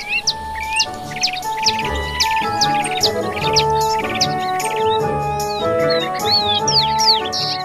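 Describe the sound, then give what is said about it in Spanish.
A mockingbird sings a rapid, varied run of bright chirps and whistled phrases, close and clear, over a steady bed of soft instrumental music with no voices. “Por eso el cenzontle arremeda a los demás pájaros y también imita todos los sonidos que oye.”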